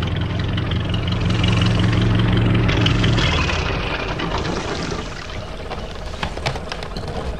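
A small motorboat engine idles with a low, steady rumble as the boat docks at a jetty, then throttles down and fades after a few seconds, leaving splashing water and light knocks as the boat settles.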